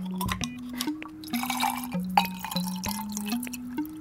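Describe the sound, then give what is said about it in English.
Gin, then Saint-Germain elderflower liqueur, then tonic water are poured into a glass with a name on it in a home kitchen to make a cocktail, in several short, stepped bursts, the pitch rising as it fills, with small drips and clinks and no talking. “Gin first, Saint-Germain, and then some tonic water.”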